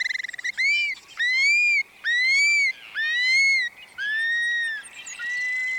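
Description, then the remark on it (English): A prairie bird on its prairie breeding grounds gives a series of about six loud, drawn-out whistles dropping from the sky, each slightly rising and rich with overtones, repeating in quick succession with no talking. “And their whistles can be heard again, dropping from the sky.”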